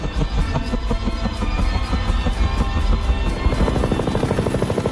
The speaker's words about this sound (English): A helicopter approaches behind him. It swoops low over the asphalt. Frowning, Wolf slowly turns around toward the noise. As he faces the oncoming helicopter, his eyes narrow to two slits.